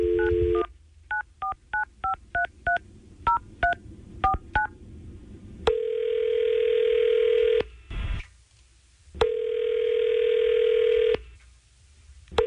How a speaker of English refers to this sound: We're going to try to figure it out right now by calling Hannah and see if we can get her on the phone.